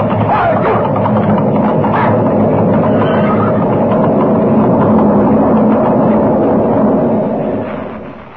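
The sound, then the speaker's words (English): A heavy, continuous roaring rumble of an avalanche thundering down a mountain toward a narrow trail, holding loud and steady with a dense low churn before easing off in the final second. “The mountain is moving, coming down on us. It's an avalanche, and we're right in its path.”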